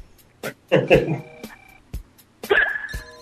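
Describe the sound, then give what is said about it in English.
A handful of short, abrupt hiccups from a woman, brought on by her tobacco, pop out at irregular intervals, some with a brief voiced catch, fairly loud against an otherwise quiet background. “Oh, she gets hiccups from her tobacco.”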